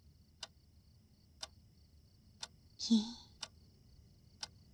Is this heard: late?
no